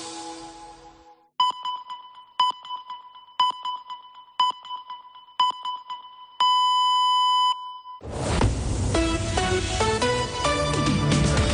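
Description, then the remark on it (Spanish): A radio time signal for 2:15 in the afternoon on COPE Catalunya i Andorra: five short, evenly spaced high beeps about once per second, then one longer final tone, clear and alone before music swells in. “Senyals horàries de 2:15 de la tarda.”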